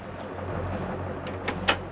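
A door is slammed shut in anger, a quick series of three sharp knocks, the last the loudest, over a steady low hum with no one talking.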